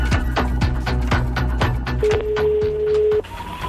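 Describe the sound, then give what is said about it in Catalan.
A phone call to the Partido Popular headquarters on Génova street is placed: a rapid run of clicking dial pulses over a low hum, then a steady electronic tone that stops abruptly before a fainter, higher tone begins. “Truco a la seu del Partit Popular al carrer Gènova.”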